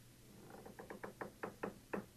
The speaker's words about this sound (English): That was a door creak. It's like this weird old like 1970s looking chair.